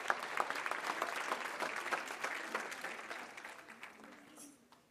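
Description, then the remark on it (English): A church audience claps together as a clap offering to the Lord in a dense burst of applause, loud at first and then gradually thinning and fading out over several seconds. “Give Lord a good clap offering, would you?”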